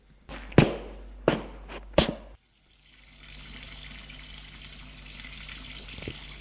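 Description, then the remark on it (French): Three sharp knocks sound in quick succession, then a short pause before cold water from a tap starts running into a bathroom sink for shaving, a steady rushing hiss that continues to the end. “Il va vite au lavabo se raser.”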